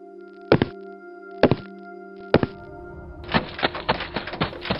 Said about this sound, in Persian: صدای دویدن است. کسی از طبقه بالا به طرف من می آید. فردی سراسیمه، تاریک است، من نمی بینم. از کنارم رد شد. پله ها را 2 تا 3 تا به طرف درب خروجی ساختمان طی می کند.